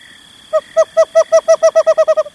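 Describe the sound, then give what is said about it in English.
A western screech owl gives a series of about a dozen short, hollow hooting notes that speed up steadily toward the end, like a bouncing ball, clear with no talking. “Some, like the white-headed woodpecker, are up early, but the western screech owl comes out after dark.”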